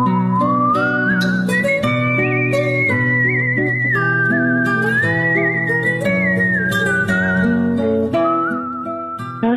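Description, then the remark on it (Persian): A smooth, melodic whistled tune by a musician who also plays violin and kamancheh glides and sustains notes over a full instrumental accompaniment, loud, continuous throughout with no talking. “نوازنده ویولون، کمانچه و سوت که روزگارش رو در فرانسه میگذرونه.”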